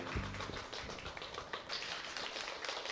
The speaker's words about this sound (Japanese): さあそれでは拍手をいただいてご案内をさせていただきましょう。